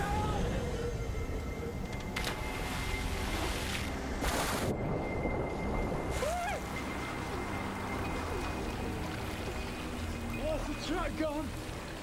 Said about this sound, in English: All this rain, the river's just a bursting point. The water level in this river has risen by 20 feet in less than a day.